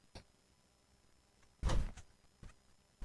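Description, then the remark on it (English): Several short squeaky scuffs from a pair of new shoes, with one louder, longer squeal in the middle and fainter squeaks before and after, with no talking. “Okay, they're squeaky, but I've had shoes that are squeaky like that, too.”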